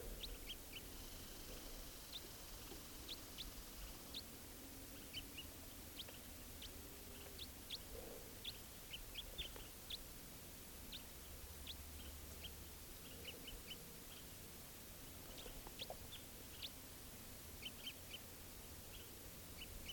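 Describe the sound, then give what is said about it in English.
A wild bird perched in the top of a tall Douglas fir gives short, high flight calls, repeated in irregular bursts throughout, fairly faint over a steady low rumble of background noise. “Here's that wild bird again, giving flight calls.”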